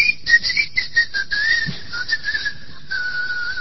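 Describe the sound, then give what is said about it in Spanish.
A high, steady whistle like that of a whistling keychain finder warbles and slowly drifts lower in pitch for a few seconds, with short chirpy pulses riding on top, clear with no talking. “El llavero ese que tiene viene con un chiflido, vos lo perdés.”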